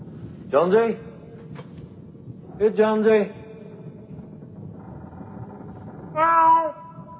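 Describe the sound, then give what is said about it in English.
A cat named Jonesy meows three times with long pauses between, each cry a drawn-out, fairly loud wail over a low, steady background rumble. “Here, kitty.”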